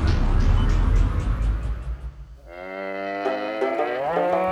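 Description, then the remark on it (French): A cow moos loudly: a rough, breathy lowing first, then a long, sustained moo that swells and rises in pitch at the end. “Les vaches qui broutent dans nos champs, broutent dans nos champs.”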